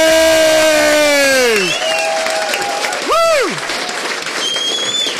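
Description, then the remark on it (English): A crowd at the Molyneux claps steadily for several seconds for the woman working behind the bar, while voices let out loud whoops and sliding cheers, one rising and falling shout standing out midway. “So please give her a round thank of applause.”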